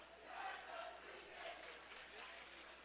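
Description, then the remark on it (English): A crowd of students in the student section at the other end of the floor cheers and chants at a Hillsboro Hawks basketball semifinal game, a steady wash of voices with a few louder swells rising out of it. “Student section on the other end of the floor, thank goodness.”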